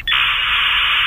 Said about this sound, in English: Yeah, I was on a conference call the other day with one of your locations, and we had a speakerphone on, and I actually heard a dial-up modem. Yeah, remember this sound?